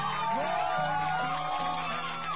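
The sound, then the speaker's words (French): A radio show audience claps and cheers for a listener who phoned in, a dense, continuous wash of noise with scattered whoops and voices rising over it, holding a fairly steady loudness throughout. “Non, mais tu laisses le temps, s'il te plaît, aux applaudissements de se finir.”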